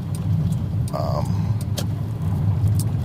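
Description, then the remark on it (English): Steady low rumble of a green Toyota Solara's engine and tires on the road, heard from inside the car, continuous throughout with a brief higher tone near the start. “I am in the green car today. I'm in my wife's car, the Toyota Solara.”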